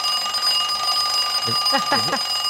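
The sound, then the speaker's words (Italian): An alarm clock from the 1960s era, brought into a studio, rings continuously with a steady, shrill, high-pitched tone, fairly loud, while a person starts talking over it near the end. “È vera, eh? Cioè, hai portata una in studio. Perché questa è la... Aspetta che la devo fermare.”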